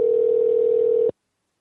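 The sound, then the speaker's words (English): A single ringback tone from an outgoing phone call: a steady, loud electronic buzz lasting about a second, then abrupt silence. No one speaks. “Can you hear that phone ringing with Andrew?”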